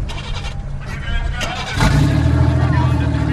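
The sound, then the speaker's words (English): Car engines idle with a low rumble, then roar to life and rev up about halfway through, settling into a loud, steady drone, with faint indistinct voices underneath, as drivers wearing helmets start their engines after a driving lesson. “After the lesson, the ex-couples don their helmets and start their engines.”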